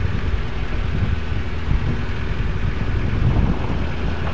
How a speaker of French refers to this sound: Ça marche, ça, quand même, hein? Il est silencieux, hein, votre moteur. Oui, oui, oui. Il y a plus de batterie quand on a chargé.